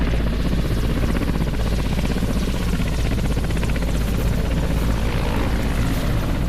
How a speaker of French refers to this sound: Il s'agit d'un M-17, un hélicoptère qui va servir à l'évacuation du soldat qui joue le rôle du blessé.